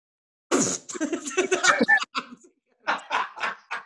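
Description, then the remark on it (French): A person imitates coughing with their voice, acting out someone coughing: a sharp burst, some strained vocal noises, then three short hacking coughs in quick succession, fairly loud. “Ouais, imagine-toi, pendant que tu joues dans sa gueule, il tousse.”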